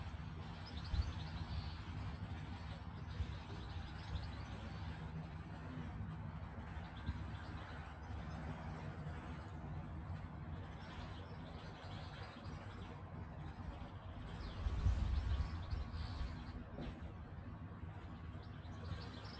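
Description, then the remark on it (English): Birds sing faintly in a vineyard at Pisa Range, New Zealand, scattered chirps and tweets rising over a steady outdoor hum, with a constant high insect-like drone and a soft low rumble throughout. “But in this one, you get to hear some, you guessed it, birds.”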